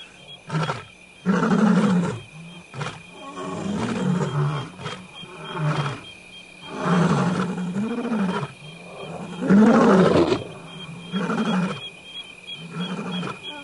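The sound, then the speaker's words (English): Several lions roar in a long series of deep, grunting calls, one after another, the bursts rising and fading in a rhythmic sequence with brief pauses between them, loud and fairly close, with no one speaking. “Those are not aggressive roars. They are communication roars.”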